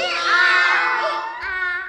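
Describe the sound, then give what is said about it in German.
A loud, drawn-out donkey bray, seemingly voiced by a person, as the donkey in the stable greets Nikolaus, with a long strained high wail that breaks and then rises again into a second shorter honk. “Der Esel begrüßte ihn mit einem lauten”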